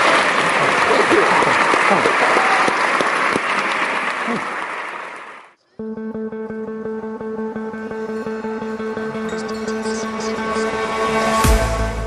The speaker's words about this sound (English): We are going to have to, I'm afraid, draw things to a close there. Would you join me in giving a round of applause to both our guests today?